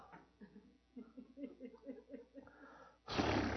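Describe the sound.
A person gives a loud, raspy roar imitating a lion, bursting out suddenly after a few seconds of soft, rhythmic breathy vocal sounds.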